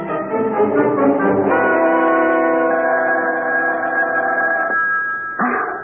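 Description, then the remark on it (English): A telephone rings loudly and steadily at 3 a.m. with a bright, bell-like tone, the ringing sustained for several seconds before briefly cutting out and starting again, with no voices. “Wake up. The phone.”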